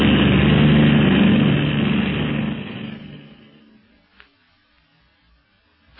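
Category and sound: vehicle, propeller plane flying overhead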